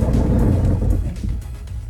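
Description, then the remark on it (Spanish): A deep, sustained rumble of thunder from a night-time electrical storm with lightning in Chile's Biobío region rolls on for about two seconds, heavy in the low end, then gradually eases off a little without fully fading. No voices are present. “Los truenos, los relámpagos.”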